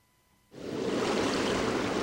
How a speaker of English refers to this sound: Ah, yes, a sound effect supposedly recorded somewhere in the equatorial waters of the Central and Eastern Pacific Ocean, where it just turns out, by coincidence, that the nature of this coming winter in the U.S. is likely being shaped as we speak.